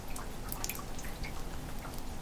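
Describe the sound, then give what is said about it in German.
Rainwater dripping into barrels by a house on a windy late-October day: irregular, closely spaced drips and splashes over a steady low rumble of running water, fairly quiet, with no voices. “Und die Tonnen füllen sich mit dem schönen matten Wasser.”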